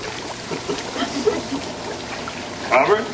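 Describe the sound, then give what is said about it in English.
Bubbling, churning water from a strong hot tub jet runs steadily throughout, with a louder burst of splashing near the end and a faint voice-like murmur mixed in. “The bubbles tickle. Hey, hey, you know, you're right. This jet is stronger.”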